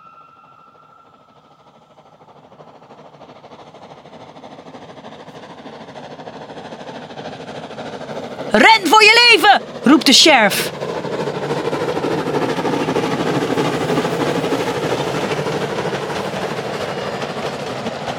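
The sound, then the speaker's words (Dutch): A train carrying cows approaches at speed, its roar building steadily from quiet to loud. A voice briefly shouts over it midway, then the heavy rushing rumble carries on, sustained. “Daar komt de trein met de koeien aanstormen.”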